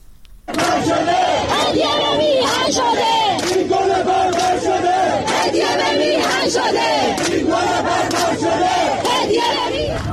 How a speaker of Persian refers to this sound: ویدیوهای منتشر شده در شبکه‌های اجتماعی نشان می‌دهد مراسم 49 حمیدرضا روحی از کشته شدگان اعتراضات اخیر روز پنجشنبه در بهشت زهرای تهران با سر دادن شعارهای اعتراضی حاضران و حمله نیروهای حکومتی به آنها برگزار شد.